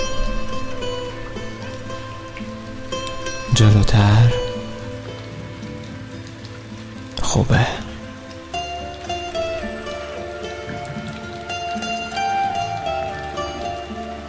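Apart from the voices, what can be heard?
gentle rain falling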